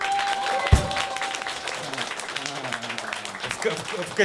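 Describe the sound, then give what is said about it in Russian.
A crowd applauds steadily, a dense clatter of many hands that holds at an even level throughout, with a man's voice talking over the clapping. “Мне громче, хлопали. Тебе, конечно, громче.”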